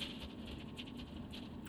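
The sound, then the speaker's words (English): Bits of frozen nitrogen, blown by winds of about 200 miles per hour, patter like hail on a station at the bottom of a ridge on Pluto: a dense, continuous spray of small impacts, fairly soft and evenly spread, with scattered sharper ticks and no voices. “It's a hailstorm.”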